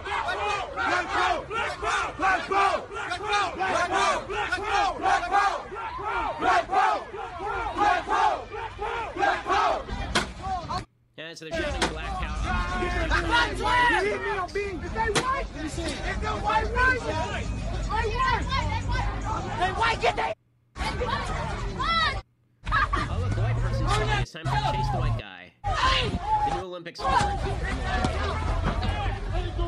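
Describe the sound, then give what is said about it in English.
A rioting crowd in Milwaukee shouts and yells late at night, shouting black power and chasing white people, many voices overlapping in a loud, continuous roar of chanting and screaming, broken by a few abrupt silent cuts. “So here is the Milwaukee rioters targeting white people.”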